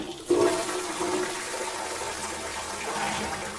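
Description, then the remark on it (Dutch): A toilet flushes, starting with a sudden whoosh and then a steady, loud rush of swirling water that continues to the end with no one speaking. “Wie wil je door de play spoelen?”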